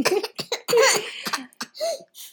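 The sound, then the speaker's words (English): A person imitates a leopard's roar, which can sound like a rasping cough, with a series of harsh, rasping cough-like bursts in an uneven rhythm, loud, with no talking. “He's imitating the sounds of a leopard. And their roar can sound like a rasping cough.”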